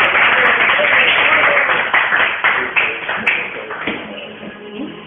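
Steady applause from an audience encouraging a reader before she reads, a dense crackle of many hands clapping at once, loud at first and gradually thinning and fading toward the end.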